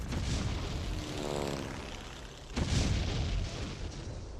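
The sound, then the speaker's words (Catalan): Droning fascist warplane engines fill the air at 5:30 in the morning, then a heavy explosion bursts in around the midpoint as the planes drop four bombs, followed by rumbling booms. Loud, dense and chaotic, with no voices. “A les 5:30 ens desperten els avions feixistes que deixen caure quatre bombes gairebé damunt nostre.”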